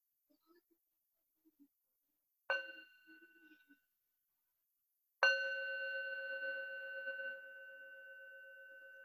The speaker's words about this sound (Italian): Facciamo un suono di campana.